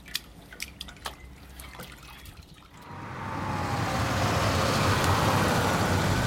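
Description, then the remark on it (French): Scattered drops of water drip and splash from a water-filled bathtub on a car roof for a few seconds, then a loud, steady rushing noise swells in and takes over, like a vehicle moving with water sloshing. “J'ai trouvé, voilà qui devrait te contenter, une baignoire remplie d'eau sur le toit de ton auto.”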